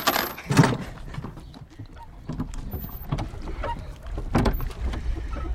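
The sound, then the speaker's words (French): Oars dip and splash through water in an uneven rhythm, several strokes, with the wooden creak and knock of a small boat and no voices. “Ah, il m'a dit qu'il y avait des rames sur le bateau.”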